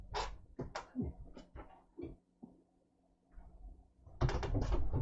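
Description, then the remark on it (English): A cat named Ingomare cries insistently at a door to be let in, with several short, urgent yowls in quick succession, then a pause, and a burst of scraping, rustling noise as the door opens. “So I'm just gonna let the cat in because it's screaming and shouting.”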